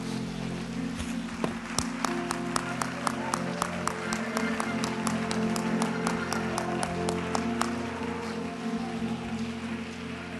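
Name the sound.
audience clapping hands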